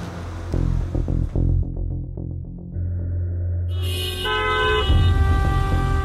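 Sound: car horns honking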